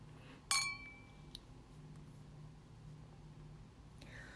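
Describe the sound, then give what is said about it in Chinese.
A single bright clink of beer glasses touching in a toast at a son's birthday party, ringing briefly with a clear metallic tone over a low hum, followed by a faint second tap. “喝吧喝吧，你今天成年了，喝一点儿也没多大关系的。好，干杯！”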